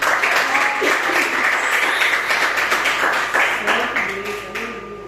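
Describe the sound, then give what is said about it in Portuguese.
An audience at an evening church service applauds for the Lord steadily, dense crackling clapping holding at a loud level throughout, with scattered voices and cheers rising under it before the applause eases slightly toward the end. “As palmas do Senhor nesta noite.”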